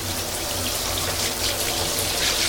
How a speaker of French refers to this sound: Et je prends ma douche.